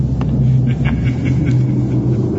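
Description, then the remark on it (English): A car engine idles outside the door, the car of a friend who has come over, with a steady, loud, low rumble that holds without a break for the whole stretch, a deep droning hum with no voices over it. “He must have come over in his car after all.”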